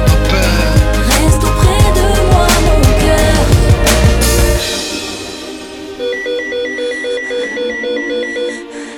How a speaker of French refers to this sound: C'est moi, mon beeper vient de sonner. J'ai un donneur.